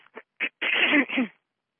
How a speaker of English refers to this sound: So if you need to clear your throat, just join me in that process.